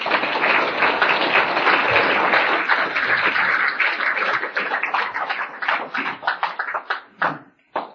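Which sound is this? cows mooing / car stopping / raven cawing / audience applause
audience applause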